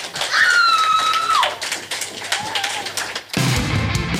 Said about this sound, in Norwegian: Takk for at dere kom, og takk gutta for at de stilte opp I disse tider. En ekstra applaus til bandene.